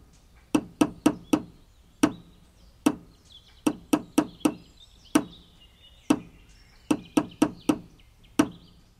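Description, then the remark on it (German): Two people building a treehouse: sharp hammer blows on wood fall in a repeating rhythm, quick bursts of three or four strikes, each followed by a single separate blow. Faint birdsong chirps in the background. “Ist euch aufgefallen, dass die beiden Baumhausbauer am Ende so einen ganz bestimmten Rhythmus hatten beim Sägen und beim Hämmern?”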